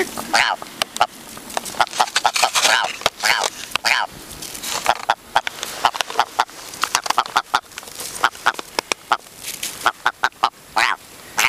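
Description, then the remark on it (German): A person imitates a clucking chicken with a rapid series of sharp clucks and squawks, bursts of varying length repeating throughout, with a few short vocal bits mixed in. “…, du bist ein richtiger Huhn-Imitator.”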